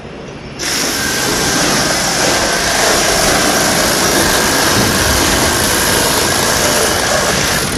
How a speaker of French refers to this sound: Alors là, ça c'est une scie. C'est mieux? Ah bah oui, parce qu'on a moins mal au rein.